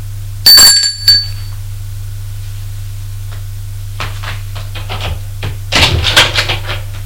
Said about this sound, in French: Monte à l'étage. Sonne à la porte.